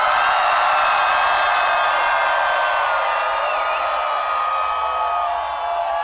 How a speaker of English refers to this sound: And on the count of three, scream as loud as you can. Are you guys ready? 1, 2, 3, let's go!